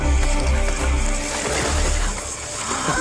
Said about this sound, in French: Or donc, voici la naissance de Naledi. Écoutez le bruit de sa chute, sa mère Kitty accouchant comme tous les éléphants, debout.